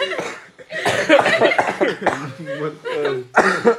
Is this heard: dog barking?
no